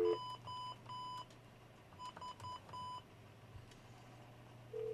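A telephone number is dialed as a quick series of touch-tone beeps, seven short steady tones in two bursts, over a low continuous hum, ending with a brief tone at the close.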